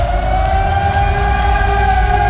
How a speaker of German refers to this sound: Ja, die Menschen in der Osnabrücker Innenstadt, in Fledder und auch in Schinkel, für die begann der Sonntag gestern Morgen recht ungewöhnlich. Um kurz halb sieben oder kurz vor halb sieben, da schrillten die Handys und Sirenen waren zu hören.